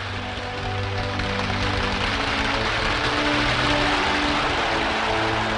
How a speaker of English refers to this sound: And when they finished, they started clapping again.